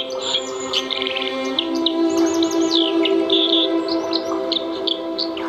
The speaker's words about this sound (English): We're back in the Onachar. Year number 30 or thereabouts, I guess. Oh, yes. 1983 was the first year that I came to this river. But obviously we're here now at the beginning of yet another breeding season for dippers. It's just fantastic.